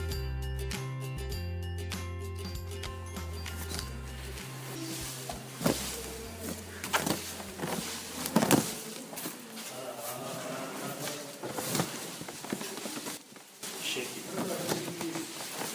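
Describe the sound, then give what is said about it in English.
Dry tea leaves rustle and patter as they are fluffed and lightly tossed by hand in a rotated basket during the withering stage of tea processing, a dense crackly shuffling with sharper bursts, over a low tonal hum that fades out after the first few seconds. “Do you hear that rustling? That's me, fluffing the tea leaves during the withering stage.”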